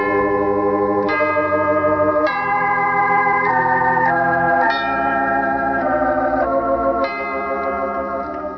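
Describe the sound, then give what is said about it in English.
Church bells ring in a slow sequence of struck, sustained tones, each new note sounding every second or so over a steady, resonant musical backdrop, loud with no voices. “I love to hear the church bells ring on Sunday.”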